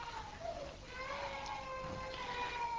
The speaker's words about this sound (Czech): To nevadí, že tady máme pláč, já jsem to myslím, že už někde říkal, že ve shromáždění, kde nepláčou děti, by měli plakat dospělí.